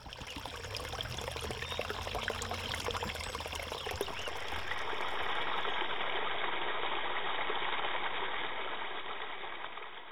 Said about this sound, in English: If you guessed headwater streams, you're right. Headwater streams are the first flowing waters in the upper part of a river's watershed.